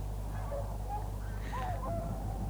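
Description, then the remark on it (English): Swans that migrate down from Iceland calling softly with little grunts and whistles, a few short wavering falsetto calls rising and falling over a steady low rumble, with no one speaking. “In fact, they can sound like a flock of pigs, if you like. Little grunts and whistles.”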